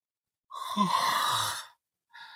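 A single drawn-out, bored yawn, voiced and close, rising then trailing off over about a second, followed by a short pause and the start of another breathy sound.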